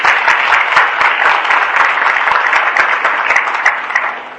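A crowd claps steadily and loudly, a dense wash of many hands applauding together for several seconds without pause, close and full-bodied, with no voices standing out.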